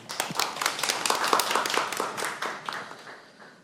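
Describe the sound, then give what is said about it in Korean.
An audience claps together before a recitation of Kim Yong-taek's poem 'A Truly Good You', a dense patter of many hands that swells quickly and then thins out toward the end, with no talking over it. “박수 주세요.”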